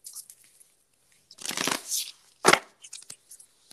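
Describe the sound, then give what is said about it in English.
A deck of cards being shuffled: a dense half-second riffle, a sharp snapping burst as the cards settle, then a few light taps and slides, with no talking. “So with that, I'm going to go ahead and shuffle.”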